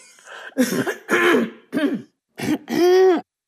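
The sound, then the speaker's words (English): A person with a frog in their throat clears it several times in a row, a series of short, raspy, guttural bursts ending in a longer, strained vocal hack. No one is talking. “Oh, gosh, wouldn't you know I'd get a frog in my throat just at the mere mention of horseradish.”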